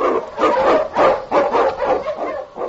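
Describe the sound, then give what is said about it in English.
A pack of husky sled dogs in the Yukon, led by the Eskimo lead dog King, barks and yelps in a dense, overlapping chorus, loud, rising and falling in quick bursts throughout with no talking, blazing a trail through storm and snow. “On, you Huskies!”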